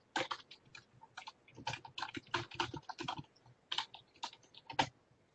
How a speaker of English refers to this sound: So, okay, I've gone from writing notes to typing notes.